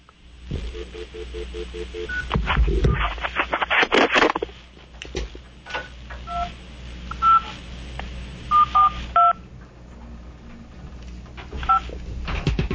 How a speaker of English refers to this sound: We got to push two more buttons. Yeah, bear with me for a second. I'm calling in on the other phone.